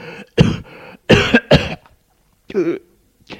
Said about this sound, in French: … tousse un peu.